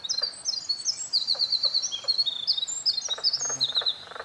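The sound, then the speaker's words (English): A winter wren sings a long, rapid song of high tinkling notes and trills running continuously from a perch on a tall spruce tree, with faint lower chirps of mink frogs and soft background ambience; no talking. “So you can hear the winter wren, that long, beautiful bird song, and this strange kind of frog sound.”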